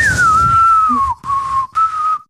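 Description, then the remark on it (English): A person whistles a sustained melodic tune imitating a phone ringtone from a Western movie, the pitch gliding slightly downward with two brief breaks, loud, with no talking. “I guess you got to learn how to whistle again.”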